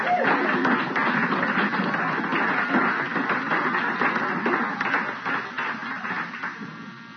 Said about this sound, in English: Thank you, Jesus. Glory. Clap your hands for Jesus.